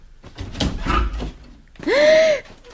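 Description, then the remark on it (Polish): A door is opened after a gentle knock: a few dull knocks and handling clunks, then a loud creak as the hinge swings, lasting about half a second. “Ciccio, zdawało mi się, że ktoś pukał. Ale kto to tak delikatnie puka? No idź, otwórz.”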